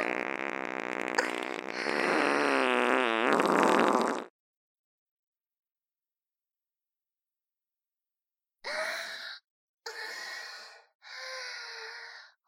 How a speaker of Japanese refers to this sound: 出た。とってもとっても臭いおなら出ちゃいました。